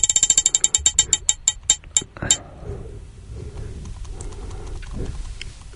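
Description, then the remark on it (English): A spinning prize wheel clicks rapidly, its sharp ticks slowing steadily over about two seconds before stopping, followed by a low murmur of background noise. “Got time for a couple more? Yep. Spinning.”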